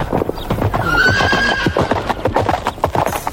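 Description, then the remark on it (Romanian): A horse gives a high, wavering whinny over a steady run of hoof clip-clops, the hoofbeats continuing in a quick, uneven rhythm after the neigh fades. “Dă-mi calul, Voltigius,”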